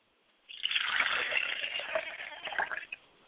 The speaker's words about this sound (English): I pour a glass of water for my father's spirit and say, Ashe, Ashe. I pour a glass of water for my mother's spirit and I say, Ashe.